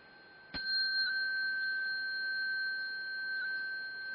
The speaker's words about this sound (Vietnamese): Thì vừa đứng dậy rồi á, chúng ta xá theo cái tiếng chuông, chúng ta nghe tiếng khánh thì chúng ta lại xuống.